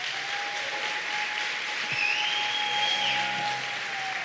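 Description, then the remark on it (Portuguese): An audience applauds steadily for several seconds, applause to the Lord for the lives of the church's visitors, a dense wash of clapping with a faint sustained tone running beneath it and a brief high whistle-like note midway. “Vamos dar um aplauso ao Senhor pela vida dos nossos visitantes.”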